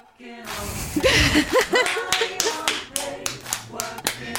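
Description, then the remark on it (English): A small group claps for a few seconds, the claps uneven, with a brief burst of whooping voices near the start before the clapping thins out. “Well, round of applause.”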